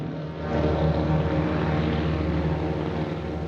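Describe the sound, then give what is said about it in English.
A propeller airplane lifts off from a runway and flies into the foggy night sky; its engine drones loudly and steadily, a thick rumbling roar that swells early on and eases slightly toward the end as the plane pulls away. No voices. “He stands behind Rick, and they both watch as the plane lifts off from the runway and flies into the night sky, where the fog swiftly envelops it.”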